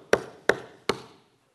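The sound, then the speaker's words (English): Three loud, hard knocks on a wooden house door in Louisiana, knocked louder after no one answered, evenly spaced about a third of a second apart, with a short ringing decay and no voices. “They didn't answer, so he knocked louder.”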